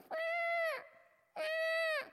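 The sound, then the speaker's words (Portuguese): A voice imitates a crow's caw twice, each call loud, nasal and drawn out for most of a second before dropping off, with a short pause between them. “O corvo, ele tem uma característica que é grasnar, né?”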